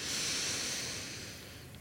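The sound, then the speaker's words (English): A single slow, airy breath taken with a gentle smile during a calming breathing exercise, a soft steady rush of air that gradually fades as it trails off, with no voices. “Lingering and then breathing out and lingering.”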